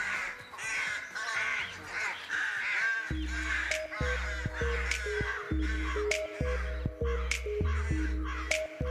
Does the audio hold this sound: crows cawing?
yes